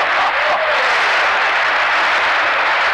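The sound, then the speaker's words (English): An audience claps for the Lord in a loud, dense wash of applause that holds steady for about three seconds, with no voices audible above it. “Let's give the Lord a clap off.”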